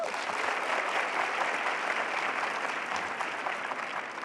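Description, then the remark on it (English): An audience claps steadily for about four seconds, a round of applause from those who have seen the film Chariots of Fire: a dense, even wash of many hands at a fairly loud, constant level, with no voices standing out. “By a round of applause, how many people here have seen Chariots of Fire?”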